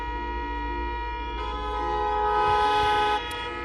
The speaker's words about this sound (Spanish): Así sonaba la carretera de entrada a Murcia, donde yo he estado parado más de 2 horas a 5 kilómetros del centro. Centenares de coches pitaban intentando que el atasco avanzara algo, sin poderlo lograr, claro.